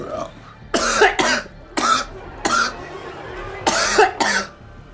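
human body sound, coughing fit

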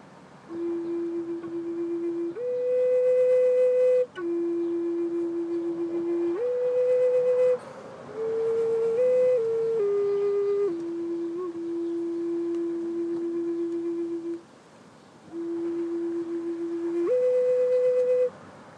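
flute being played

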